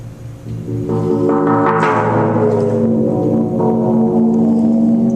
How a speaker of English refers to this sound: All right, here we have a giant gong sitting above a giant thing of water. The man is lowering it.